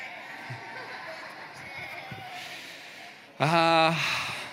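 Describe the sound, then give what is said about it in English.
After a few seconds of quiet room murmur, a crowd of voices suddenly bursts into loud, drawn-out bleats, people giving their best sheep impressions to their neighbours on a count of three, the noise sustained to the end. “So if you could please turn to your neighbor, and I would like it if you could give me your best sheep impression to your neighbor on three.”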